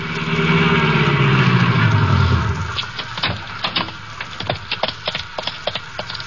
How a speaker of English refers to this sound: I stumbled to the elevator, went downstairs, found my car, and drove out to the arena.